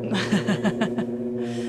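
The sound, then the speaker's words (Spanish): A solo tuba plays a quick, bouncy run of short staccato notes over a steady low sustained tone, moderately loud, with no voices. “Esta es una de las obras con las que nuestro solista de hoy se hizo famoso, ya que es mundialmente conocido como tubista, o sea, ya sabemos que el instrumento es la tuba”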